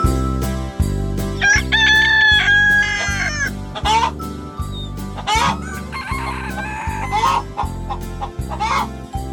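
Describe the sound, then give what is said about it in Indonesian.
A rooster crows a couple of times, loud, announcing the morning, over steady upbeat music with a pulsing beat running underneath throughout. “Hore, sudah pagi. Saatnya ku beri makan ayam-ayamku.”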